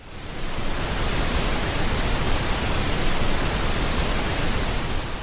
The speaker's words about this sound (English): Here's a quick sample of pink noise. I'm going to fade in and then fade out of this so it's not just jarringly loud. Nice. Here goes.